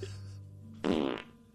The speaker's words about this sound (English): Oh. And I just farted.